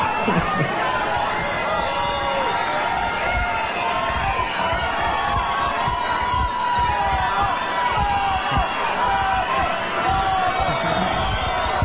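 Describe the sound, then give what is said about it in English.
A large concert crowd cheers and whoops continuously, a dense wall of excited shouting and voices, with no pause in the roar across the whole stretch. “We're all excited, as you can tell, because”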